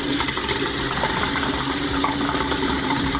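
A tap in Zrenjanin, northern Serbia, runs steadily into a glass, a continuous gush of water with a broad hissy splash, filling without pause and no one speaking.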